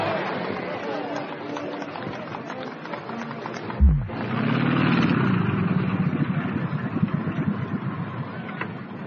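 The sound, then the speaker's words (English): The propeller engine of a Lockheed Electra airplane over Lester's Field, on the outskirts of St. John's, Newfoundland, purrs in a steady, low droning hum. After a brief thump midway it swells louder with a rising, whirring tone, and indistinct voices sound faintly underneath. “If you listen, you can hear the purr of the Lockheed Electra, the most advanced aeroplane in the skies.”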